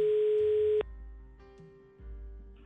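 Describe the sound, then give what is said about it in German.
A telephone ringing tone on an outgoing call from a radio presenter to a listener: one steady, fairly loud electronic tone for under a second, then fading to a faint line hum with low background rumble. “und ich klingel mal ganz kurz bei ihm durch.”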